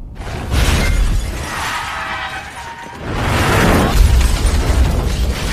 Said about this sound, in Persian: برمیگردی نگام کنی، میریم توی دره، این فیلم و ماشین شیو میره پایین و منفجر میشه.